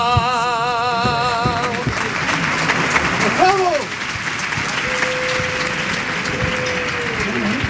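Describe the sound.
A crowd breaks into sustained, dense applause as a wavering, ornamented sung note trails off, with scattered voices calling out over the clapping.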